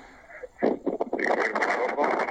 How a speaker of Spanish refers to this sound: se nota mucho viento, se escucha mucho viento, estás en un lugar bastante ventoso. Intenta encontrar un rinconcito ahí asocado, a ver si podemos entender un poquito mejor.